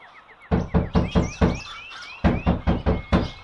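A woman knocks firmly on the wooden door of a house in two bursts, four raps and then five quicker ones, loud, with faint high chirping in the background and no voices.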